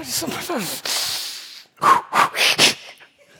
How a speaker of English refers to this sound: And we're like, you got a breathing exercise or something?